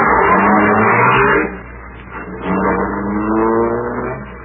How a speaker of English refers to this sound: Choke the motor, lady. Well, it sounds like it's choking now.